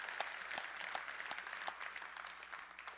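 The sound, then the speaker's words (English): An audience applauds steadily, many hands clapping in a dense, crackling wash with a few sharper individual claps standing out, fairly even in loudness throughout. “Anybody want to clap again for that?”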